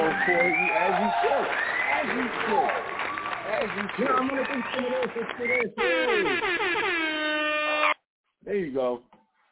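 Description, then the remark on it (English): A loud canned celebration effect: a roaring, cheering crowd with clapping, then a run of blaring air horn blasts with bending pitch, ending abruptly, followed by a short final burst. “So I'm going to give myself some applause for that.”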